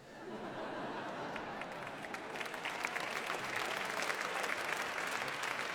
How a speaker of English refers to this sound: Very kind of you to clap, it takes up time.